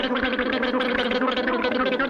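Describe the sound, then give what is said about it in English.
Steady, rapid gargling with a rhythmic chugging pulse, like an express train rushing along. A voice is making the sound; it stays loud and continuous throughout with no words. “There are many different styles, such as the express train.”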